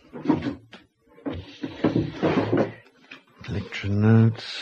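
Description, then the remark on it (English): A locked single desk drawer with a four-lever box lock is jiggled and pulled open, with a run of wooden clunks, rattles and scraping, followed by a brief voice murmuring near the end. “Desk. Single drawer. Locked. Four-lever box lock.”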